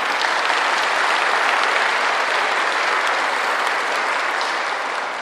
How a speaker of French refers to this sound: Amen. Amen. Tu peux applaudir le Seigneur.